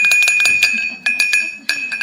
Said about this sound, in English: As they're stirring up their cup of coffee or tea or whatever. And it doesn't echo in your mind. Something has actually pinged, but you're so loose, it doesn't even affect you.